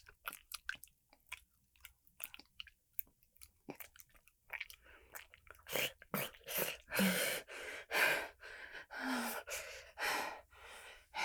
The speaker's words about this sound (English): Yeah, I'm breathing.